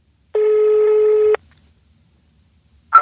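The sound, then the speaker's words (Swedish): A single loud, steady telephone ringback tone of an outgoing call sounds for about a second, followed by silence until a voice starts speaking right at the end. “Vi ringer”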